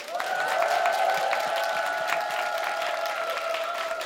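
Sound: audience applause and cheering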